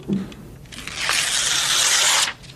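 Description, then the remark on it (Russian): A single long rip of a whole page being torn out of a book, fairly loud, building over about a second and a half after a soft handling sound, with no one speaking. “Я прошу вас вырвать эту страницу. Ну же, целиком, всю страницу.”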